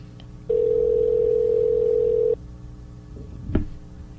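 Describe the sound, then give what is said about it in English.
A single steady ringback tone plays for about two seconds on an outgoing phone call, then stops, followed by quiet line noise and a brief click. “We're calling Homer, okay? It is ringing and it's connecting.”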